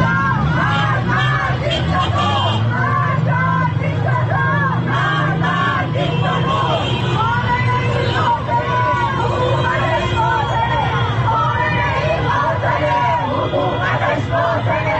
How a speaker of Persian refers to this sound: بنابر گزارش‌های رسیده به رادیو فردا به دنبال انتشار خبر جان باختن مهسا امینی تجمع‌های اعتراضی در نقاطی از شهر تهران برگزار شد. در این اعتراض‌ها شعارهای علیه مقام‌های حکومتی و از جمله رهبر جمهوری اسلامی سر داده شد.